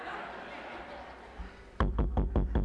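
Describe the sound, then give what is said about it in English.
A quiet stretch of room noise, then a burst of loud, heavy knocking on a house door: about five quick, evenly spaced, resonant thumps. “If this fool keeps knocking on the door like that, he's going to wake everybody up in the house and stir up and cause commotion.”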